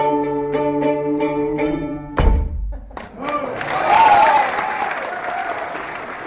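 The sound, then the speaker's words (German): Sustained musical tones with repeated sharp strikes end in a heavy thump, followed by a dense wash of applause from the Schaffhausen audience at a show by the cabaret duo Schön und gut, with some voices mixed in. “Und das Schaffhauser Publikum, das war sehr begeistert gewesen.”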